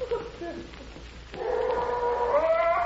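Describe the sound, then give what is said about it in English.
A dog howls in a long, rising, wavering note that begins partway through and swells louder, after a stretch of quieter murmuring sound. “I've got to get rid of that blasted dog.”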